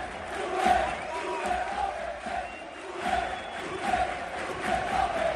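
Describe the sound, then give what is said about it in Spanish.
At the Bernabéu at the end of a match lost 1-4, a large crowd of football fans chants in unison in support of Sevilla coach Julen Lopetegui, a dense roar of many voices that swells in repeated rhythmic surges, with no single voice standing out. “porque hoy lo extraño, lo raro, lo que no habíamos visto nunca es que después de una derrota con 1-4, con un entrenador en la calle, la afición gritara esto al final del partido.”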